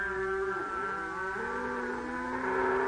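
A water buffalo lows in one long, drawn-out call lasting nearly three seconds, steady in loudness. Its deep tone bends slightly partway through, and no one speaks.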